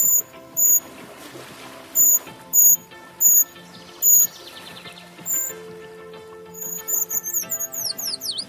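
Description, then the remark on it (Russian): A Eurasian treecreeper sings: a series of short, very high, thin notes at steady intervals, then a quicker run of high, wavering notes toward the end, heard clearly over a faint steady background hum. “Так поет пищуха обыкновенная.”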